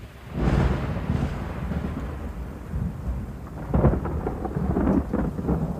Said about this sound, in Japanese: ちょっとね、今この僕の住んでるとこ近辺雷やばくてね、停電になったらごめんなさい。